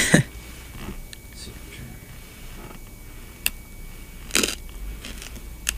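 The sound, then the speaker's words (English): Sharp crunching of a candy cane being bitten and chewed, with a few distinct brittle cracks spread over several seconds against a quiet background. “I apologize for the crunching of my candy cane.”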